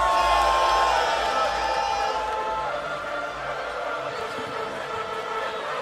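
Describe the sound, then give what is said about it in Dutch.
A large crowd in a park roars with loud cheering and scattered whoops after a call to make some noise for a band, a dense sustained wash of voices that fades slightly after the first couple of seconds but stays loud throughout. “…, make some noise!”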